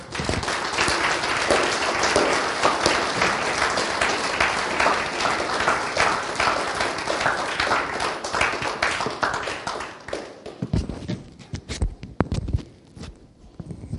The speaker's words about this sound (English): So bring them on with applause.